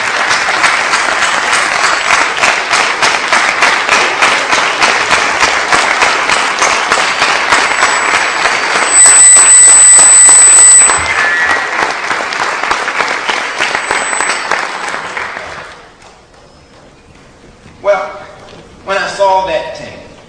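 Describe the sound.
Sustained audience applause, a dense crackle of many hands clapping loudly for about fifteen seconds, then fading out, followed by brief speech.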